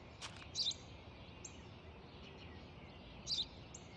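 A sparrow chirps a few times, with two brief, brighter chirps standing out among fainter ones, over a steady, soft outdoor hiss with no one talking.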